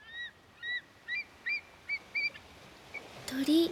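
A series of short, repeated calls from white birds rings out at a steady pace, clear, followed by a louder, lower honking call at the end over faint background ambience, at the sea at sunset.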